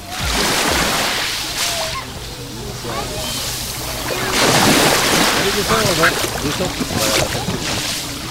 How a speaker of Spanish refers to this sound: Lo primero, oriento el micrófono al agua del mar. Así es como hoy escuchamos los que estamos aquí y disfrutáis a través de las ondas, los que estáis conectados a la radio, el mar Mediterráneo. Así es como suena hoy la playa de Salobreña.